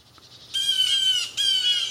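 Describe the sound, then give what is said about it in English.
Harsh, raspy calls of several agitated blue jays mobbing a predator erupt loudly in two overlapping bursts after a quieter start, squawking with no pause between them. “And let's listen to some that are mobbing.”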